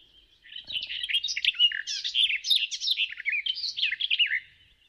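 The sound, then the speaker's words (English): A garden warbler sings a long, continuous, rapid warble of mellow, burbling notes, fluctuating quickly in pitch with no clear pauses, clear and alone without any voices. “Nou, met al deze informatie, de zang van de tuinfluiter.”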